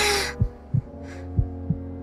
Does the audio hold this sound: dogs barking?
no